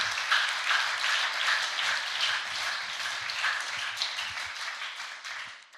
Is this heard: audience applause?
yes